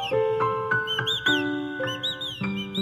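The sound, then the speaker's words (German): A professional art whistler whistles bright, birdlike chirps and short trills, imitating birdsong, in quick bursts over sustained instrumental chords that shift every few moments, fairly loud throughout. “Vögel imitieren ist aber nicht nur was fürs Kabarett.”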